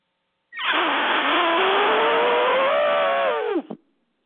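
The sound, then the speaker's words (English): A person on a radio show imitates an elephant's trumpet with one loud, raspy, buzzing blast held for about three seconds, its pitch slowly rising before it drops away sharply at the end. “You have to have an obnoxious outlet, and if that's it, an elephant sound, what can you do?”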